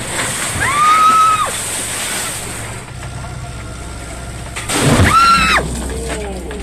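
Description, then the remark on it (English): Two loud bursts of rushing spray from water cannons aimed at activists on a Gaza-bound aid vessel in the darkness, one near the start and one toward the end, hiss over a steady engine rumble, each accompanied by a rising and falling whistle-like tone. “Video streams show commandos boarding some of the vessels, activists being sprayed with water cannons, and chaos in the darkness before the feed cuts out.”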